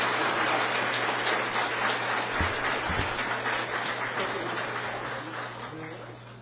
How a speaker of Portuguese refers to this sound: E um aplauso para Jesus. Obrigado.